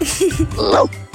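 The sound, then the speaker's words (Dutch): A person imitates a dog barking as the first sound in an animal-sound quiz, giving a few short, throaty yaps in quick succession, fairly loud, with no other talking. “Een hond, is dat goed?”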